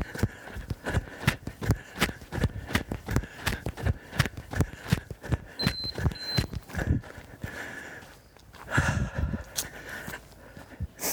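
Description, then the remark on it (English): A runner in the woods breathing in a steady pattern of two breaths in and two out, paced against regular thudding footfalls, with a couple of short high beeps partway through. “You might be able to hear my breathing pattern. I breathe in twice, out twice.”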